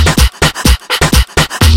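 A dog pants rapidly, about seven quick, loud huffing breaths in a steady rhythm over a low, booming background.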